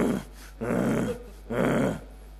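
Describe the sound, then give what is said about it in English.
Lions roaring around 2 to 3 a.m. on either side of an unfenced camp in a Big Five game reserve: two long, deep, rasping roars, each lasting about half a second, following the tail of an earlier one in a steady rhythm. The roars are loud, with no talking. “And then these lions started roaring either side of the camp.”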